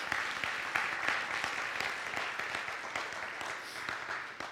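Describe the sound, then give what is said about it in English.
A church audience bursts into steady, sustained applause as a hand clap of praise to the Lord during a communion service, many hands clapping together in a dense, crackling wash that holds at an even level for several seconds without any talking. “Let's give the Lord a hand clap of praise to that.”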